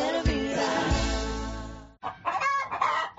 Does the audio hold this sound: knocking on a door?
no